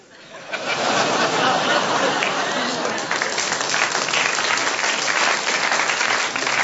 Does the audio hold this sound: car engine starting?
no